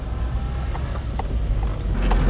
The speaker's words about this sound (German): Wir fahren zusammen mit ihrem Auto dorthin.